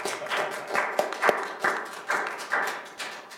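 An audience applauds with a steady patter of many hands clapping, individual sharp claps standing out in an irregular rhythm, moderately loud with no voices.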